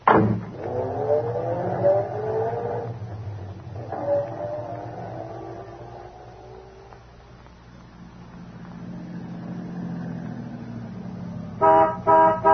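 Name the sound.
car pulling up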